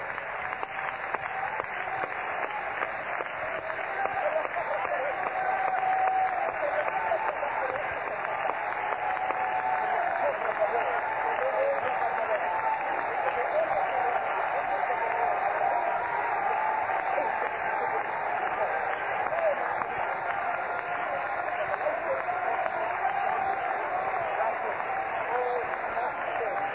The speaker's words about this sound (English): Would you clap your hands for just a moment with all of your might?